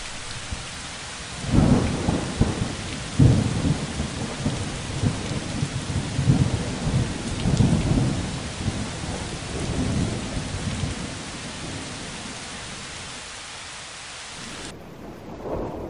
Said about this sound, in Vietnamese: Ngoài kia mưa gió đang ào ạt tuôn xuống mái nhà.